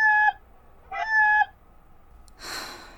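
chicken clucking

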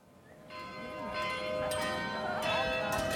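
church bells ringing

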